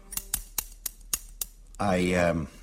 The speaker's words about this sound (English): I got a pair of scissors here, as you can hear. Piece of paper. And I'm going to cut out a paper man.